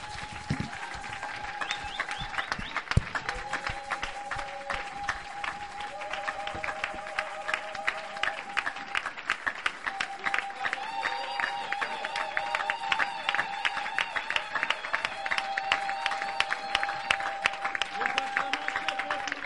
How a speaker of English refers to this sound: Nous acclamons très fort pour le Seigneur.